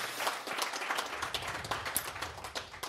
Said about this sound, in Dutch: Nou, dat is heel mooi. Een applaus in ieder geval voor 100 jaar.